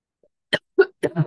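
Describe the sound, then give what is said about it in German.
A short run of four quick coughs, the first dry and breathy, the rest more voiced and throaty, coming in rapid succession with no talking around them. “Ich fange dann manchmal an zu husten.”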